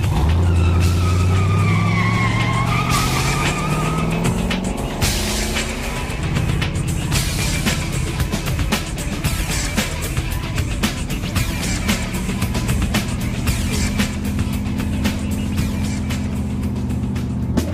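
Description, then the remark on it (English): A car engine revs hard and pulls away, following an SUV, tires squealing briefly before the motor settles into a steady, loud drone as the vehicle speeds off, continuous with no voices. “Veronica jumps back into her car and follows the SUV.”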